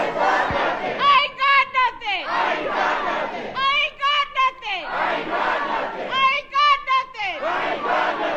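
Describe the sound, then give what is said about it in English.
Dozens of protesters carrying protest signs in the Aurora city council chamber during a council meeting chant a short phrase, a variation on Kylan Lewis's last words, in loud unison, repeating it three times in a steady rhythm, with shouted voices rising at the end of each line. “Last night, dozens of people carried protest signs into the chamber and chanted a variation on Lewis's last words.”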